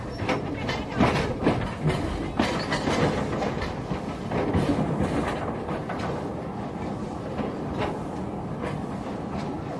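A steam train rolls along the rails through the bush in Mozambique, a loud, steady rumble broken by rhythmic clacks and bursts that repeat throughout, with no voices.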